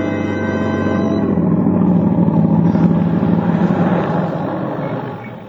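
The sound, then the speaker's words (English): A car engine hums steadily as the car drives up to a boarding house in the early evening, its low drone shifting as it approaches, then easing down and fading as it comes to a stop. “Tom Stevens and Helen Benson drive up to the boarding house after their picnic”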